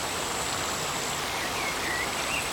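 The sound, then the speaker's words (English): Steady, continuous rush of flowing water, like a stream, with a broad hiss at even loudness throughout. A faint high birdlike tone drifts above it; no voices. “Come back to the water element.”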